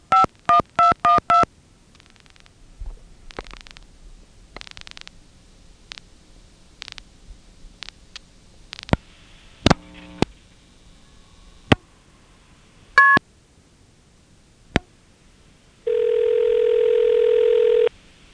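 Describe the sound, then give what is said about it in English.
A telephone call to long-distance directory assistance being dialed and going through normally: a quick burst of touch-tone digits, then scattered clicks and short tones as the line connects, ending with a loud steady tone. No one speaks. “Here's a call to long-distance directory assistance going through normally.”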